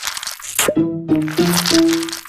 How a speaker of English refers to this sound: That's the sound of Inky the octopus, who climbed the glass of his tank at the International Aquarium of New Zealand, crawled across the floor, and slithered down a drain hole. He escaped.